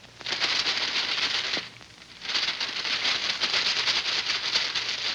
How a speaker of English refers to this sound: short track of paper rattling.